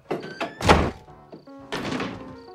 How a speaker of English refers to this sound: kicks the chair, then storms off.